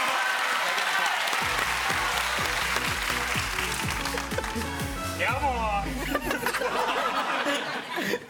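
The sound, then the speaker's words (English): Loud, vigorous hand clapping fills the whole stretch in a dense, continuous burst, with music playing underneath and a rising vocal whoop partway through. “If you clap any harder, they're going to fall off.”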